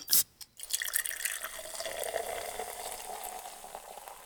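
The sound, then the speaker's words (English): A sharp, brief opening snap, then a steady fizz of ice-cold carbonated Coca-Cola, bubbles crackling and hissing continuously for several seconds with no voices. “Think of the pop of a Snapple cap or the fizz of an ice-cold Coca-Cola.”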